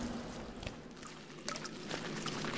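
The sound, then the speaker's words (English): Water trickles and drips into cups, collected to drink, a handful of distinct plinks landing irregularly over a soft, steady watery hiss; quiet, with no voices. “Why are you collecting all this water?”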